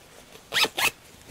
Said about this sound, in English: So now I have my zipper basted in place, and what I'm going to do at this point is zip it up.